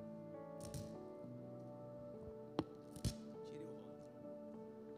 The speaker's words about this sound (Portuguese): Agora só tira o rótulo aqui, ó. Tira o rótulo.